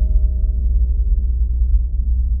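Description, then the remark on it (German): Continuous electronic tones with a low, buzzy, layered pitch hold steady and loud for the whole stretch, with no speech: a signal from an unknown frequency received by an astronaut. “Doch dann formen sich klare, melodische Töne zu einer Art Gruß.”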